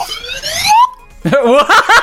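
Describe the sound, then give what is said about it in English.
A slide whistle glides steadily upward in pitch for under a second, then stops; after a short pause a voice follows with brief bursts of talk or laughter. “Who the fuck had a slide whistle? I have a slide whistle.”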